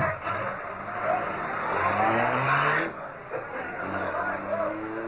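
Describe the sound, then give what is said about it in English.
A car engine revs up and pulls away, its pitch climbing in two strong surges over a steady, noisy road rumble. “Give it the gas, Cato.”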